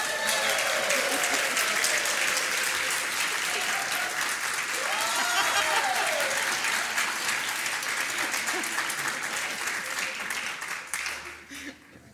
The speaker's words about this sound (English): And let's give a belated happy birthday applause